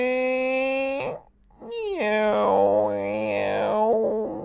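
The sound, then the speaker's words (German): A voice imitates the hungry stomach of a big dinosaur character growling during a break from team training: a long, loud, tonal groan, a brief pause, then a wobbling, warbling rumble whose pitch bends up and down before fading out. “Der hält seinen großen Bauch mit beiden Händen fest und lächelt. Hast du etwa Hunger?”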